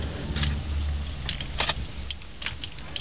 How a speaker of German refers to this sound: Klapperdi-klipp, klapperdi-klapp. Was ist denn mit dem Motor los? Da klappert doch was.